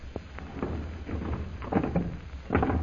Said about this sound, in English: We'd better close this door again, Kolo.